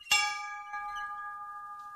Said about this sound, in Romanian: Este clopotul care anunța recreația copiilor? Da.